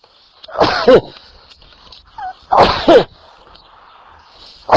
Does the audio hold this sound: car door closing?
no